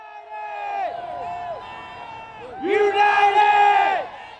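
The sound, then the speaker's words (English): A large crowd of Atlanta United soccer fans cheers and chants at a championship victory parade in downtown Atlanta on a chilly, rainy morning, many voices rising and falling together in sustained, pitched shouts, swelling louder near the end. “Atlanta's unique fan zeal was on display at today's parade.”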